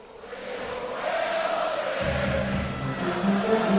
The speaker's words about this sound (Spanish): Escuchamos de fondo de la plaza, esperan ya más de 6.000 aficionados.